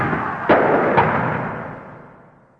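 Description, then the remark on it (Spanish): Two sharp firearm gunshots crack about half a second apart, each trailing off in a reverberant echo over a steady wash of outdoor background noise, during a clash between student protesters throwing bottles and Molotov cocktails and police firing tear gas. “Se escuchan también algunos disparos de armas de fuego.”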